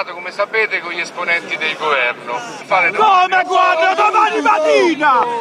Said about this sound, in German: Als ein Sprecher der Taxigewerkschaften seinen Leuten verkündet, man habe die eigene kritische Position gegenüber der Regierung kundgetan, schreit die Menge auf und wirft den Kadern Verrat vor.